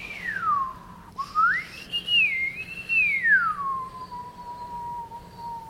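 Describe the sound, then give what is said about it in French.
A person whistles, imitating the whistling heard from the crater of the Mount Semeru volcano: one continuous tone that falls, swoops up and wavers high, then slides down into a long steady low note, with no talking. “Et de temps en temps on entend, alors elle fait des sifflements, elle fait...”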